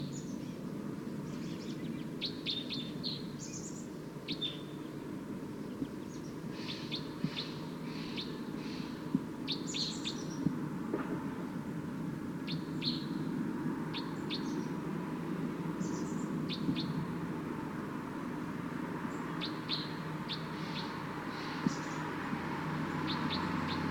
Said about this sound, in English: Wild bird's approaching a little bit closer now. Stop. So recording wild bird's calling loud now, as well as the decoys.